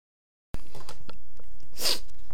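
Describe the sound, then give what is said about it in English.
A single sharp cough bursts out after a moment of silence, with faint breathy rustling before it and no talking. “I'll mute this cough real quick.”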